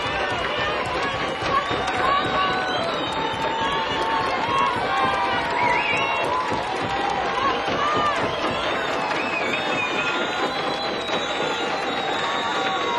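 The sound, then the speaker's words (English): A loud crowd pounds its feet and hands in a dense, steady clatter of thumps and claps, with glasses knocking and voices shouting and cheering throughout. “Pounding of feet, hands, glasses, and one person holding a lighted match in the middle of the crowd.”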